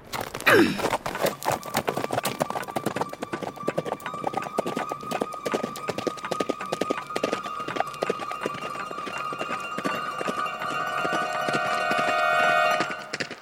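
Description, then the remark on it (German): Rapid hoofbeats of a horse galloping along a narrow, dangerous road after its female rider spurs it on, pounding in a steady, driving rhythm, loud throughout, with a brief sharp breathy sound at the start. “sie gab ihrem Pferd die Sporen und sprengte die schmale, gefährliche Straße entlang.”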